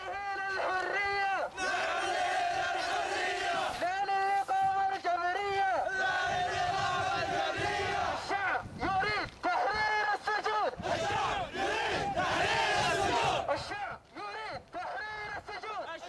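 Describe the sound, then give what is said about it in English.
A large crowd of anti-regime protesters chants loudly in unison at a Wednesday rally in the Al Qasim region, north of Riyadh, Saudi Arabia, many voices rising and falling in rhythmic, repeated phrases with brief pauses between bursts, sustained throughout. “People have held a new anti-regime protest there.”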